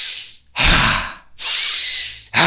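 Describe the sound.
Three forceful, noisy breaths in quick succession, each a loud rushing burst about a second long with brief pauses between, as someone demonstrates tantric breathwork: inhaling while tensing the whole body.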